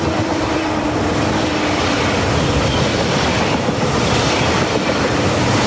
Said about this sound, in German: Ein Zug fährt vorbei, ohne Halt direkt zum Hauptbahnhof.